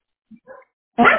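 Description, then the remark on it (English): A dog gives a single loud, sharp bark, preceded by a couple of faint, brief whimpering sounds. No one speaks. “And that's like, I don't know why he's even barking.”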